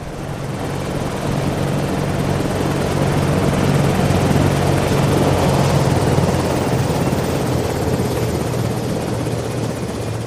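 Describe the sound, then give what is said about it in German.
A small, agile Thunderbolt X-200E helicopter lands on frozen ground, its rotors thudding in a steady, fast rhythm under a loud, continuous engine whine and rushing wash of air, with no voices. “Ein kleiner, wendiger Hubschrauber der Klasse Thunderbolt X-200E setzte zur Landung an.”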